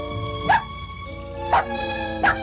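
A hungry puppy, given the name Scruffy, gives three short, high yips about a second apart, clear, over a steady tonal hum in the background.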